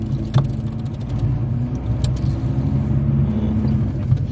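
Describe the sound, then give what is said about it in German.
A car driving along up ahead in pouring rain: its engine rumbles steadily, a low, even drone that neither swells nor fades much, with a couple of brief clicks over it. Nobody speaks. “Da vorne fährt ein Auto.”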